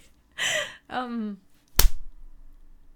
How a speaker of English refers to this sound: Okay, let's slap a bit less hard. I'm just clapping my hands. I don't know. It is still spiking. Why do I slap so aggressively?